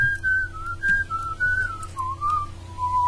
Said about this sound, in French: Siffle bien, dis donc. Ah oui, il siffle pas mal. Tu vois, c'est presque l'accent de la Sicile.